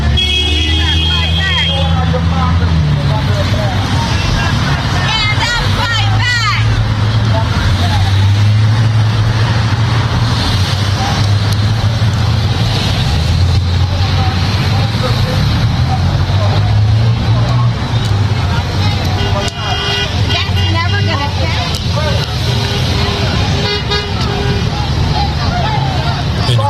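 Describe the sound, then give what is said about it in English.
Car horns honk in support of a street protest in a few sustained bursts, at the start and again near the end, over a steady low traffic rumble and the murmur of a crowd. “Positive honks there are in the support.”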